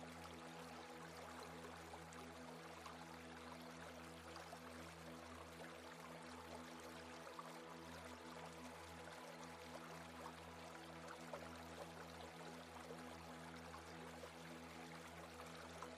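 A babbling brook runs continuously and softly throughout, a steady trickling and splashing with no pauses, over a faint low humming drone.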